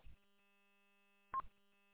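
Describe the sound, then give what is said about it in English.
Two short electronic beeps about a second and a half apart, each a quick burst followed by a faint lingering tonal hum, with silence in between and no voices. “I kept hearing this beep, and I'll go in and see if you can get that turned off.”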